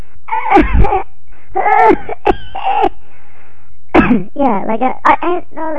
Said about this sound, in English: Oh, and I even have this really bad cough.